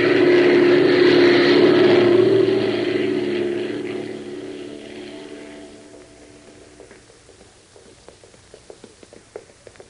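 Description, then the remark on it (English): An airplane comes in to land on a camouflaged landing strip, its loud droning engine roar holding steady, then gradually dying away over several seconds and leaving only faint, scattered clicks and ticks. “That's the landing strip. They're peeling off the camouflage. Watch it. We're going in.”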